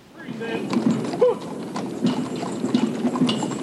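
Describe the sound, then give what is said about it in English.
Horse hooves clip-clop steadily on a hard surface at a walking pace, drawing a flag-bearing caisson at a memorial service, with low indistinct voices and ambient murmur underneath. “And there was the horse-drawn caisson with the flag, with the full military band.”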